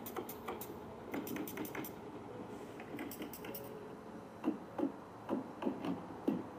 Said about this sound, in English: Nice. Hammer tacker.